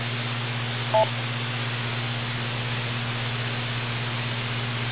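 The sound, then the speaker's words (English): A single short electronic beep from a radio repeater, two tones at once, sounds about a second in, then steady radio hiss with a low constant hum continues alone, with no one speaking. “Don't do what I just do. Wait for the beep.”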